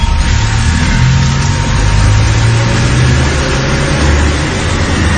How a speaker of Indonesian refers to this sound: Aku pun langsung menjalankan mobilku.